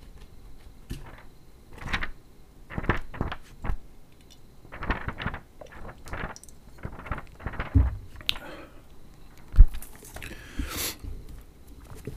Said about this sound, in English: Okay, I'm gonna take a sip of wine while you can listen to the pages of the book.